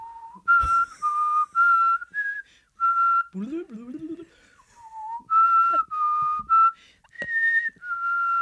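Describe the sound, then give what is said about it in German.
Someone whistles a TV show theme tune, slow and melodic, holding sustained notes that step up and down, with a short break midway where a voice briefly murmurs before the whistling resumes. “ich versuche die Akte X-Musik zu pfeifen”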